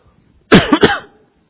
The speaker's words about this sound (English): Excuse me, I'm sorry for my cough.